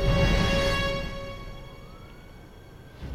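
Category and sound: signal or alarm, police siren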